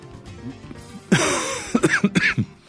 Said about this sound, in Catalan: Perdoneu si me sentiu una mica tossir.